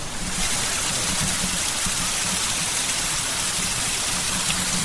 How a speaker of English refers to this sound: There's a little stream coming down, it's splashing over a rock. Let me try to capture that.